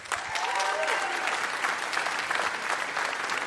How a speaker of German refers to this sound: Euer Applaus.